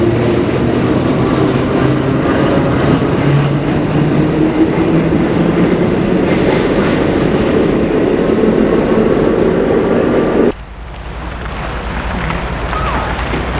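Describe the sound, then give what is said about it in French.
A metro train rumbles loudly and steadily through an enclosed station, with a dense roar and low hum, then the noise drops suddenly near the end to a softer rumble. “Et ils sortent de la station de métro.”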